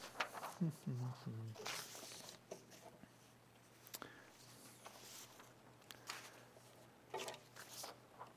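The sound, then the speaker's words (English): Crisp rustling and shuffling of paper note sheets in several irregular bursts as a speaker searches for the last page of notes, with a brief low voice murmuring near the start. “Don't shuffle when you're talking out loud.”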